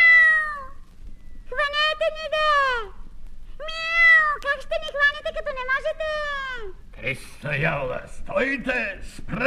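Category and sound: animal, kitten meowing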